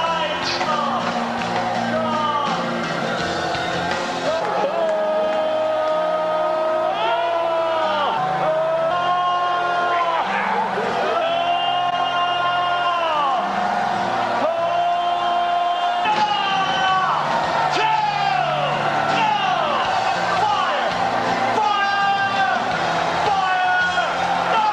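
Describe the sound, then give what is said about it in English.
A large crowd of people with hands up screams, wails and shouts "fire, fire" continuously as Dr. Michael Brown puts hands on their heads, many voices rising and falling in overlapping cries, loud and chaotic throughout with no pause. “So he's putting hands on their heads, all these people, who hands up screaming and wailing, as you heard, and just shouting, fire, fire.”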